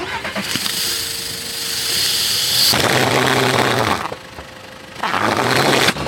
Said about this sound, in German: Und ich hoffe, dass es jetzt funktioniert, dass das Auto jetzt zu einem richtigen Sportauto geworden ist. Wir machen einfach mal an.